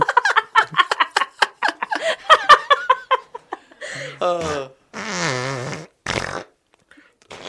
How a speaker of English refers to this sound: Including fart bank. Cop that, Hitler. That'd be funny out of context. Just fart noises.